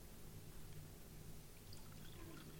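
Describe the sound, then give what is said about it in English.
Water pours steadily from a jug with black dirt on its outside, a continuous splashing gurgle with a low rumbling undertone, even in loudness throughout, with no voices. “What's in my jug? Well, there's some water in here. Let's see what we've got.”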